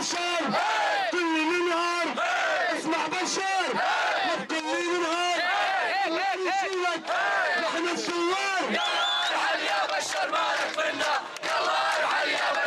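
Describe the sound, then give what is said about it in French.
A large crowd at a street protest shouts and chants loudly in unison, voices rising in rhythmic bursts with scattered individual yells, dense and continuous throughout, as a young man harangues the crowd of men of all generations, a few women and children. “Le jeune homme qui m'avait donné son t-shirt harangue la foule.”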